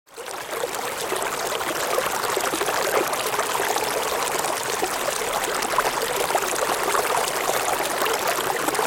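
The Kinnesburn, a small stream running through St. Andrews, Scotland, trickles and babbles steadily over stones, a continuous bright splashing wash of water with no pauses and no voices.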